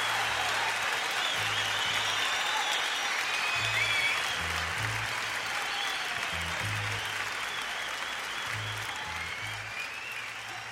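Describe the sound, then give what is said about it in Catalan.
Sustained applause from a concert audience, a dense, steady wash of clapping with no voices, holding at a loud level before easing slightly toward the end. “Havia de deixar els aplaudiments, una meravella”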